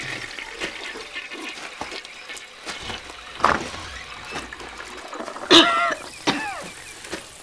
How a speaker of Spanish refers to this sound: ¿Qué fue eso? ¿Alguien tosió o será mi idea? Ay, no, de verdad. Alguien está tosiendo. Es en los baños.